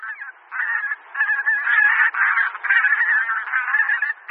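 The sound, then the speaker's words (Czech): Bean geese honk continuously in a dense, overlapping chorus, the nasal calls rising and falling without pause for several seconds, sounding like a sizable flock. “U nás husy polní zimují v blízkosti vod.”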